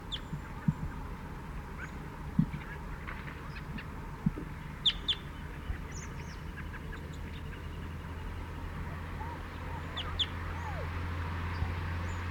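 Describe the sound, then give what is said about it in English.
A lone male bird perched in a pine behind a net chitters in scattered bursts of short, high, fairly faint chirps, heard over steady background noise and a low constant hum. “Chittering on the way in. Perched in the pine immediately behind the net.”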